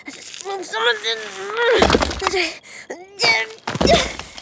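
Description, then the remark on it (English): A few irregular, hollow metallic knocks thud out between and under a person's drawn-out vocal sounds and wordless talk as the person knocks in search of an opening, each knock a short, fairly loud burst. “That sounds hollow! Hollow metal!”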